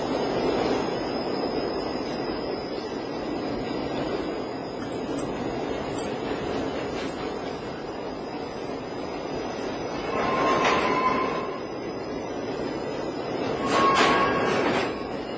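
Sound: subway train rumbling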